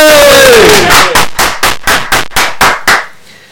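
A crowd cheers loudly, a whistle-like whoop sliding down at the start, then settles into about eight steady rhythmic claps in unison before fading out.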